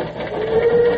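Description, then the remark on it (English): A steam locomotive whistle, recorded on the locomotive's famous run, rises out of dense mechanical rumble and holds a steady, sustained tone through the end, fairly loud, with no one talking. “There's her whistle.”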